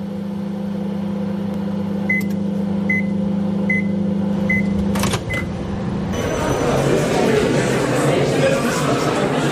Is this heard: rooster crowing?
no